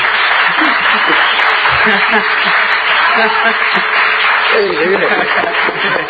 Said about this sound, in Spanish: Lo de los aplausos está saliendo muy bien, quiero decir. Está saliendo bien, bárbaro. Tal cual lo planeado.